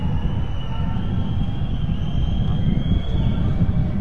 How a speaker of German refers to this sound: Das windet hier oben ganz schön, das will ich dir mal sagen.